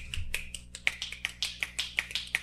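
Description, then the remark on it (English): A rapid run of about a dozen sharp finger snaps, crisp and bright, coming at a quick, slightly uneven rhythm with no talking over them. “If I could snap on here without killing your eardrums, I would be snapping.”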